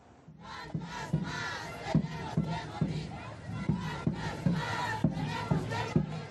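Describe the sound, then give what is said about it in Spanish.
A large crowd at a mass street march through the city of El Alto in La Paz chants loudly in unison "cuántas más tenemos que morir", voices rising and falling in a steady rhythmic cadence with regular accented beats, sustained for several seconds as a dense wall of shouting. “Con gritos de cuántas más tenemos que morir, una multitudinaria marcha recorrió las calles de la ciudad de El Alto en La Paz”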